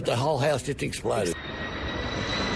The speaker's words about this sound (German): Weg hier, ruft eine Frau ihrem Sohn zu, als ein Flugzeug rote Löschflüssigkeit ablässt. Mehr als 100 solcher Maschinen sind im Einsatz.